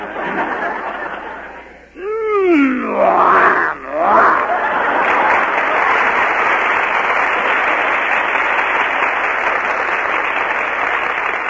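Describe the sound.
A man briefly imitates the MGM lion's growl as a forfeit, a couple of loud rising-and-falling roaring vocal bursts, over steady crowd applause that continues long after the growling ends.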